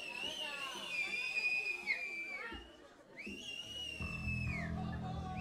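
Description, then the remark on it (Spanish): An audience cheers and makes noise before a show starts while several shrill whistles ring out, some long and sliding, over a steady babble of voices; a low rumbling hum joins near the end. “Bueno, vamos a hacer un poquito de ruido para avisar a los vecinos que vamos a empezar.”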